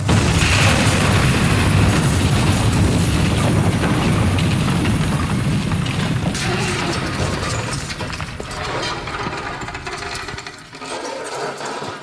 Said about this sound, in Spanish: Sus desesperadas zancadas no fueron lo suficientemente rápidas como para devorar el trecho que le separaba de la explosión. ¡No! ¡No! ¡No! La fábrica explotó. ¡No!